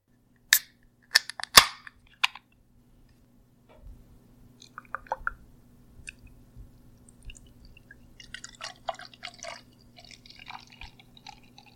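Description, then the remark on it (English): A few sharp snaps and a pop as a beer bottle cap comes off, then beer splashes and trickles into a glass with fizzy gurgling over a low steady hum. No one speaks. “Well, this is a very, very nice beer, but it's meant to be sipped and shared, so go easy on it, guys. All right, let's open it up.”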